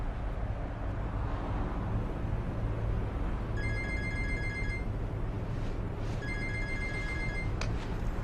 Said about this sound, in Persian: اون تلفن کوفتی رو جواب میدی یا نه؟